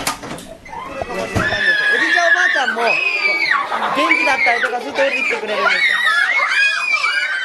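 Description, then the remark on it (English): Young children at a preschool joined with a nursing home shriek and squeal loudly and continuously as they run around the room, overlapping high-pitched voices rising and falling. “You walk into the room and you are bombarded by these little bodies screaming and flying around, and the vitality, man, is just over the top, and it's infectious.”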